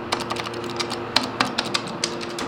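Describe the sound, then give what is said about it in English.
An elevator button that isn't lighting up is jabbed over and over while the doors fail to open, a quick, uneven run of sharp plastic clicks, some louder than others, over a steady low mechanical hum. No one speaks. “Pressing it 8 million times isn't going to help.”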